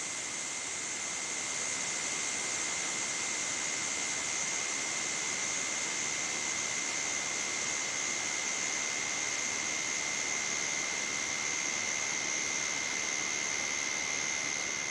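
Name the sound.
white noise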